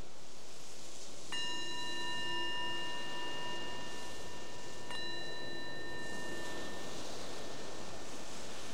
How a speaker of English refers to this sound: The bell is our invitation to let go of whatever we were doing before and just be here.